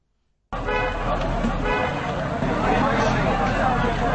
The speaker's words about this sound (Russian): Свистят полицейские, гудят от переизбытка чувств водители. Это обычная для Стамбула многокилометровая автомобильная пробка.